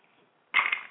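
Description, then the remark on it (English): After a moment of near silence, ice cubes tumble into a glass for a toast with a sudden bright clatter that rattles on briefly, followed by another quick clink at the very end. “That's the ice in the glass.”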